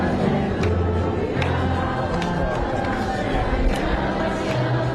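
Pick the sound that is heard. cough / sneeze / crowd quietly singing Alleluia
crowd quietly singing Alleluia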